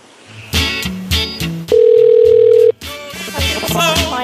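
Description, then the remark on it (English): A steady electronic phone tone holds for about a second, loud and clear, set among a burst of rapid beeps and tonal chirps like a cell phone interfering on a customer support call line. “Turn off your cell phone because I can hear it.”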